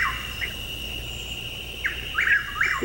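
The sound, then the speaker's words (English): A Chuck-will's-widow calling, with short whistled notes that sweep up and down, clustering into a quick repeated phrase near the end, over a steady high insect-like drone and low background rumble. “Well, Bill's pulled up the Chuck Wills Widow. That's let's start with that one. Is that your bird there?”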